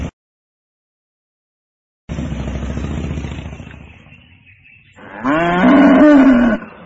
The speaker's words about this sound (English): What are they, Grandpa? They're cows.